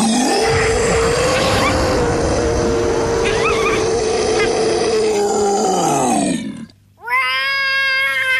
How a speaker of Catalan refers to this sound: I, vaja, són uns personatges una mica estranys. Per exemple, aquest és un dels badalls del més gros.